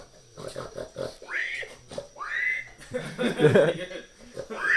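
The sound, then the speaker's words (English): A voice imitates a pig, making a run of snorting grunts and squealing oinks, with rising squeal-like sweeps and a louder, rougher burst in the middle. “I can do like I can do a pig, but I can't do like a grunt.”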